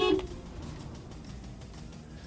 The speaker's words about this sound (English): Look, I'm going to beep my horn. Can you hear it with the window shut? Yeah, of course you can, but...